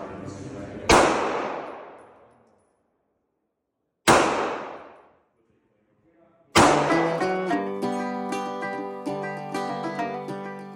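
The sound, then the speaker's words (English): Two loud, sharp gunshots a few seconds apart at Thistle Gun Range, a large outdoor range in a canyon in Spanish Fork, Utah, each ringing out in a long fading echo, then a sustained, tonal musical passage starts and carries on. “When I arrive, gunshots are ringing through the canyon.”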